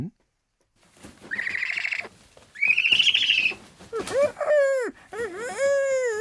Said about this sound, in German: Also, wir sind jetzt einfach mal auf einer Burg und da gibt's die Eule Emil. Und die Eule Emil, die weiß auch noch nicht, was eine Äolsharfe ist, aber gleich erfährt sie es.